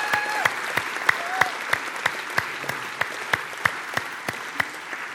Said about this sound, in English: Let's give those ladies a round of applause.